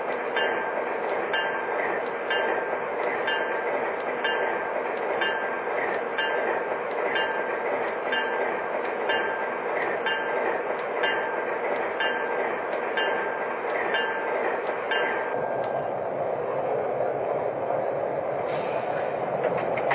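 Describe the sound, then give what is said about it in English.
A passenger train, number 105, rolls along track one with a steady, loud rumble and regular clickety-clack of wheels over rail joints, the rhythm dropping away near the end as it settles. “Chicago on track one. Train number 105, the city of Portland.”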